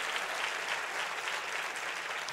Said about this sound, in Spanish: Y si tú puedes reconocer eso, hazlo con un fuerte aplauso para la gloria de Dios.